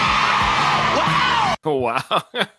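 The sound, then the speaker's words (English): A crowd of women in the audience yells "yay" together on request in a loud, sustained cheer for about a second and a half, then it cuts off and a man starts talking. “Let me hear all the horny women in the audience say yay.”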